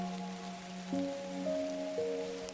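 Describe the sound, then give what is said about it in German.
Soft, steady rain patters continuously in the background while gentle sustained musical tones drift over it, shifting pitch now and then; no voices are heard. “Du machst es ihr nach und schließt deine Augen, während die Regentropfen dir über das Gesicht fließen.”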